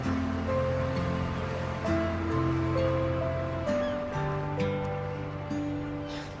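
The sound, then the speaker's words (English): A steady wash of ocean surf fills the background, continuous and moderately loud, as a boat departs on the water, while soft sustained musical tones play over it. No one speaks. “She looks out at the water to see Ben's boat departing.”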